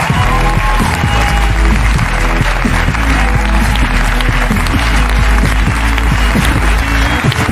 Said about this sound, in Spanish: Vale, pues un aplauso para Maxi Iglesias en La Resistencia.